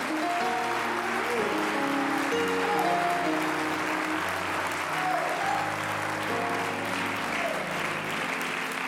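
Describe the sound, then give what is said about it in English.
An audience claps hands in praise to God during a church sermon, a dense, steady wash of applause from many people that keeps going for several seconds, with faint organ or keyboard tones sustained underneath. “Clap your hands and give God some praise.”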